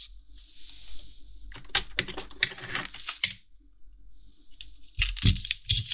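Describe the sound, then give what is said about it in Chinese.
Scratching of a pen on paper in short, hurried strokes as someone writes down an address, broken by a few light taps and clicks, with a quiet pause before the writing resumes. No one speaks. “那，给你写个地址。”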